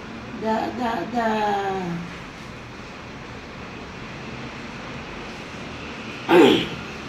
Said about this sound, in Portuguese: Quem me deu esse pigarro agora?